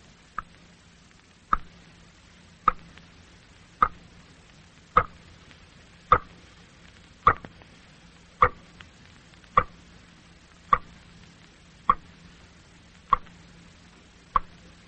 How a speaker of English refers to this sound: I have heard ghosts who sounded much like that, in lonely houses about 3 o'clock on some dark morning, and I have found out what made them. It was water dropping slowly from a leaky faucet into a sink or a bathtub. That is what you just heard.